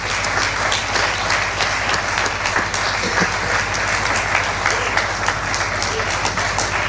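An audience at the Raval de Cristo festivities applauds in thanks to everyone who makes the festivities possible, a dense wash of many hands clapping at an even loudness throughout, with no voices standing out above it.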